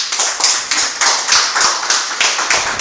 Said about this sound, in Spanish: Bueno, muchísimas gracias. Aplauso al grupo.